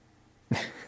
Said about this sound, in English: So sorry, Frankie's making some noise, which is my dog, because I think he's feeling a little sick. And so he's pacing and he can't get comfy.